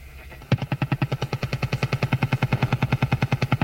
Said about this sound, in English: And tuning down the dial, I can even find the Russian over-the-horizon radar system.